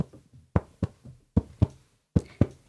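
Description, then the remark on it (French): A heartbeat, the heart of the pirate Bernard beating again after a shipwreck, starts faintly, then grows into three strong, steady lub-dub pairs of low, dull thumps with short pauses between them. No one speaks. “Mais finalement, son cœur se remit à battre.”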